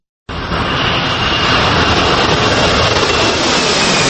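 jet airliner engine

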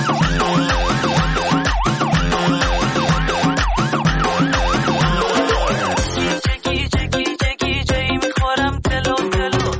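ambulance siren

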